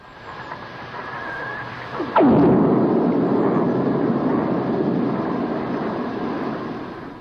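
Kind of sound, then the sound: nature, lightning strike recorded underwater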